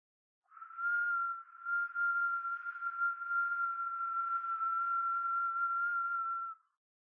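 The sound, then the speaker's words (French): A single long, steady whistle held at one pitch for about six seconds, soft and delicate, imitating a bird's call with a slight wavering, vocalised as part of a sound practice, heard alone with no talking. “Tout d'abord, un sifflement long et délicat, comme celui des oiseaux.”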